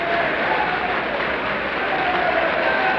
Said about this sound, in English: The applause is dying down now.